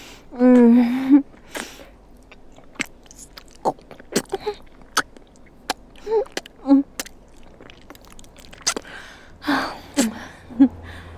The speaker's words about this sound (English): Do you have a preference for how I gasp? Like when you're jammed all the way down my throat? Do you prefer it when I swallow over and over? Like I'm trying to suck you in the rest of the way? Or do you like it better when I gag all messy?